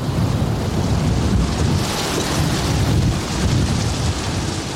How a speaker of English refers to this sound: A single blast of wind. The boat stumbled, dipping the lee rail. I had to free the sails fast to avoid us being knocked down.